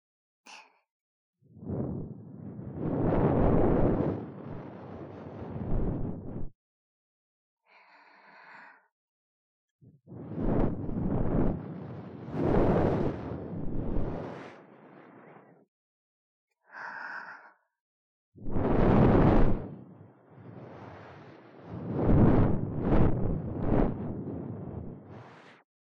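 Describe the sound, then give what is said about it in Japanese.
Long, airy breaths from an idol are blown into the ear to clean it, in three strong whooshing waves, with softer, shorter puffs in the pauses between them. There is no talking. “アイドルの吐息でお耳の中をきれいにしちゃいましょうね。”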